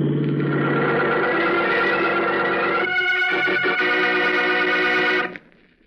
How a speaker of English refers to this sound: What the? Look out for that car